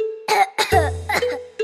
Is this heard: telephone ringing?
no